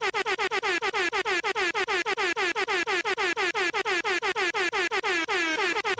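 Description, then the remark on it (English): A loud air horn blasts over and over in rapid, stuttering bursts for several seconds, its bright, brassy tone pulsing in a steady, almost machine-gun rhythm with no voices. “Had to give that man extra air horns, folks.”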